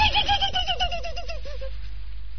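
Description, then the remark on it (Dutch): A voice imitates the neigh of a large white horse: one high, quavering whinny that wobbles rapidly in pitch and slides downward before fading out, heard alone. “Een paard, dat is een groot wit beest. Met een Sinterklaas op zijn rug. En hij maakt zo'n geluid”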